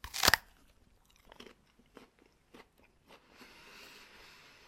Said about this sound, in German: Conference heißt die Sorte. Conference. Und vielleicht kannst du auch einfach mal reinbeißen. Beiß mal rein, komm mal ein bisschen näher ans Mikro, genau.